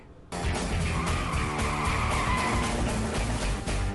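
A loud car brake screech kicks in abruptly after a brief pause and holds steady for several seconds, a harsh tire squeal over a rumbling, gritty roar, with no voices.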